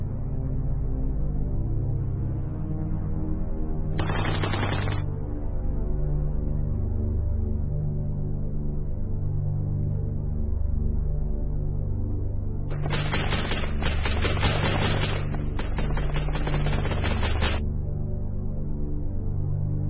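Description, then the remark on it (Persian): Rapid machine-gun fire of ISIS militants shooting at people in the streets in Iraq, in three bursts: a short one first, then two longer rattling volleys close together near the end, all over a steady low rumbling background bed. “اما وهابیا قبل از شوره جام جهانیشون یه اردوی آمادگی هم داشتن، به این صورت که توی کوچه و خیابون راه افتادن و مردم بیگناه رو بدون هیچ دلیلی به گلوله بستن.”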